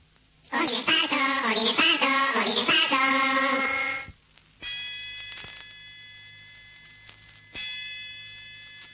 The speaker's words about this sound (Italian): Due colpi di gong segneranno l'inizio del secondo tempo.